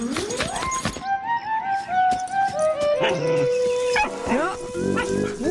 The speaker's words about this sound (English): Doggy! No, Dill. Woof! Spike's a doggy.